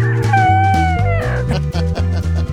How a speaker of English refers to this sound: See that? That was the bald eagle flying over. Oh my gosh, they trained him to hold an American flag.